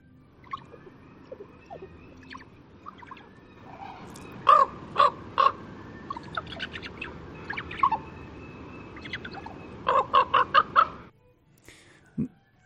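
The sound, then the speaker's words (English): A raven gabbles to itself, a varied run of croaks, clicks and throaty calls with sharp bursts around the middle and near the end, no talking over it. “Yeah, I'll play this one, a raven gabbling.”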